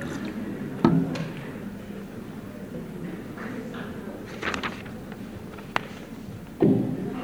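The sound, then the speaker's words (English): Water is poured into a glass, with a short liquid gurgle in the middle, soft clinks, and dull thuds as the glass or bottle is set down at the start and end. “I would just prepare a little water, which is always good for a speaker.”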